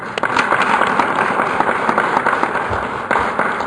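An audience at a session on AAPIs and aging claps steadily for several seconds for the AAPI caucus, a dense, even patter of many hands with no voices over it, holding at a strong level until the end.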